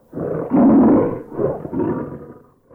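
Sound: lion roaring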